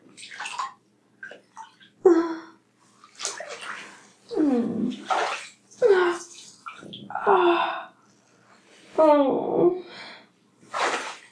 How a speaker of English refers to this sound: Could you imagine how it would feel the warm water all around us and the sound of the water moving